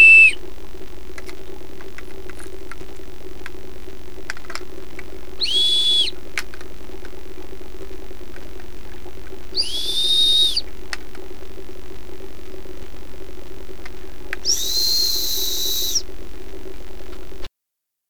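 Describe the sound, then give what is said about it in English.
Four short, high-pitched whistles, played as a demonstration of frequency, sound at regular intervals of about five seconds, each one clear and distinct over a steady low background hum, with no talking. “So what was up with those four whistles?”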